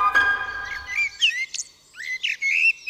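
A common blackbird sings in a city, clear, fluting whistled phrases with long flute-like notes, rising and falling in short runs with brief pauses, alone without voices.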